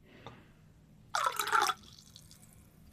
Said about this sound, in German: Schatz, Badewanne ist fast fertig. Warte. Nur die letzten Tropfen der Badewanne.